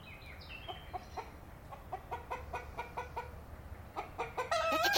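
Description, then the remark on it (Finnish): Chickens cluck in a quick series of short, sharp calls over a low background rumble. A louder, sustained morning rooster crow starts right at the end. “Hyvää huomenta, herra Kukko.”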